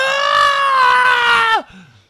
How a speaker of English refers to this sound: They have been conditioned to erupt into hysterical screaming. It's so unnecessary.